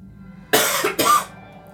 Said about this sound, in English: It wasn't your turn to cough yet. I was just muting my mic.